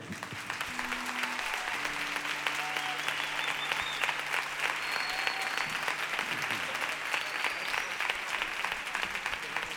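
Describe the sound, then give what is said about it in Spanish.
Sustained audience applause for Chiqui Sandoval, a dense crackle of many hands clapping at a steady level for the full stretch, with faint tonal hums and a few brief whistle-like tones beneath. “Pido, por favor, que le deis un fuerte aplauso a Chiqui Sandoval.”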